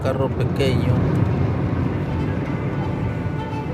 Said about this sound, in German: Nach Altar kann man nicht in so einer typischen Narkokarre fahren. Mit einem großen Auto macht man sich dort sofort verdächtig. Deshalb fahren wir in so einem kleinen Sedan. Das ist viel besser.